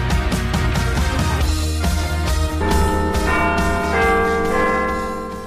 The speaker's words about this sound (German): Dann wünsche ich jetzt viel Spaß im zweiten Teil und es hat schon geklingelt, aber auf die Plätze, oder?